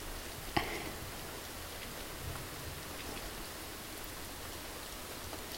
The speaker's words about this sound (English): I could stay here like this for hours, hearing the rain pouring outside, feeling you breathe slowly, and smelling you, being so warm and cozy.